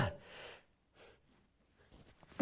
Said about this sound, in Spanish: Eso fue, uy, viene un estornudo.